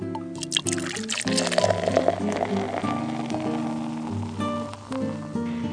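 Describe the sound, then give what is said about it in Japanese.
Two draft beers pour steadily from a tap into glasses, a continuous foamy rush of liquid at moderate loudness, with background music playing throughout. “生ビール 二つで。はい、ちょっと待ってください。”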